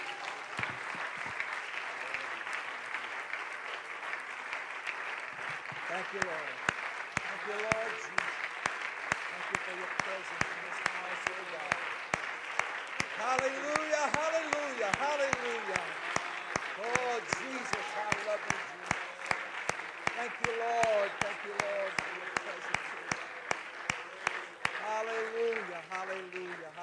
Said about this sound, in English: Would you give the Lord a hand clap of praise as he comes?